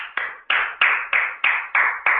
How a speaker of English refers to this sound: That's applause.